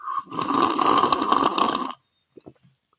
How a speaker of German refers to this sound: Genau. Ja, und das machen wir hier am Schliersee. Tee schlürfen und ein Imperium aufbauen.